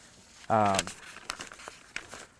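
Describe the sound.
Paper being handled, with a few short, dry crinkles and rustles scattered over a couple of seconds, following a brief voiced sound near the start.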